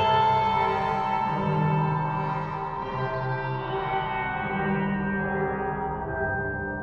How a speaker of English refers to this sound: Jolly music seeps through the tent's open entrance to echo eerily off the forest edge, which seems more like a wall at this point, caging me in.